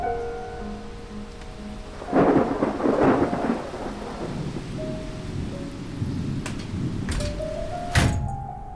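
Steady rain pours down in a dense, continuous hiss, with a rumble of thunder swelling around two to three seconds in and sharp cracks near the end. There is no talking.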